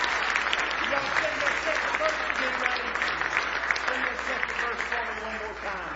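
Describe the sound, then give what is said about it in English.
A large church audience claps their hands in praise of the Lord, steady, dense applause that fills the whole stretch, with scattered voices calling out underneath the sustained clapping. “Give the Lord another hand clap of praise if you love Him with all your heart.”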